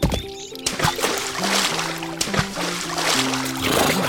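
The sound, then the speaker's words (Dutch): Water sloshes and splashes steadily as someone climbs into a small inflatable paddling pool on a warm day, with a soft tonal melody running faintly underneath. “Ik ga vast in het badje.”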